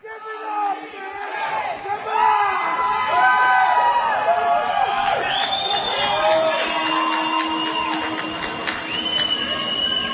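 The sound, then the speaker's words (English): A large crowd screams and cheers loudly and continuously, high-pitched shrieks and whoops swelling over a dense roar of voices for about ten seconds. “Let me hear you scream.”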